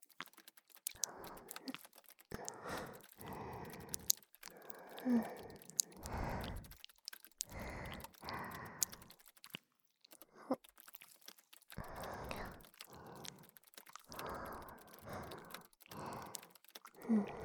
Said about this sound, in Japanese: ところで、この息遣い、マイクに乗っちゃうかな。